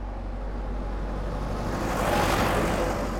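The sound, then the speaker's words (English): A pickup truck's engine rumbles steadily, its noise swelling briefly as it pulls out of a driveway, with no voices. “A neighbor yelled as he started out of his driveway.”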